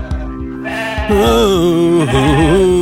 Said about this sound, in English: Can't you hear that bloody sheep? Not really, darling. Just ignore it and go to sleep.